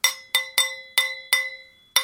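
A cheese knife taps a wine glass six times in an uneven, tune-like rhythm, each bright clink leaving a clear, high ringing tone that hangs on between strikes.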